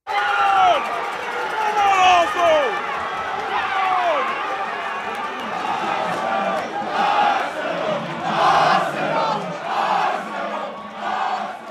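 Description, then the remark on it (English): A packed crowd of soccer fans in a crowded bar in downtown Brooklyn cheers and shouts continuously for Arsenal Football Club, loud, with rising whoops and overlapping voices swelling into bursts of louder roaring toward the end. “Instead, I was standing in a crowded bar in downtown Brooklyn, screaming my lungs off for my favorite British soccer team, Arsenal Football Club.”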